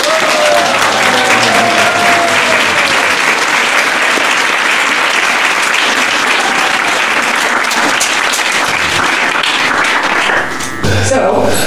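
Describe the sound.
Loud, sustained applause from an audience, a dense wash of clapping that holds steady for about ten seconds before cutting off abruptly, with faint murmuring voices mixed in.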